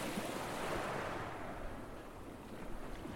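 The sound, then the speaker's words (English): A steady rushing wash of choppy sea waves on a bitterly cold, foggy night, swelling slightly early on before settling into a continuous roar, with a gusty wind-like hiss mixed in and no voices. “It was a bitterly cold night, with fog drifting in from a choppy sea, making the warmth and bright lights of the party even more welcoming.”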